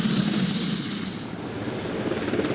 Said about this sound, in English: And here comes the helicopter, back over us, high into the Penzance sky it lifts for a final time, directly overhead now. I can see the bottom of the chassis as it wheels round counterclockwise, two floodlights on,